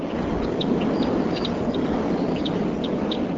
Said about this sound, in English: Just south of Fond du Lac, 86 large gray turbines that are part of the Forward Wind Farm dominate what used to be just a rural landscape. On a recent evening, one turbine produced this much whooshing noise above the sound of grassland birds.